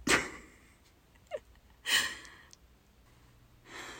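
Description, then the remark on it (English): A cat scratches at a couch in three short, raspy bursts of shredding fabric, spaced a second or two apart, fairly quiet and with no talking. “My fucking cat is scratching the couch.”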